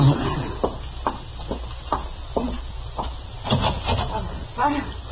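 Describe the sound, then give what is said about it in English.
A door is opened with a series of sharp clicks and knocks from the latch and handle, over a low room hum and faint background voices. “Open the door”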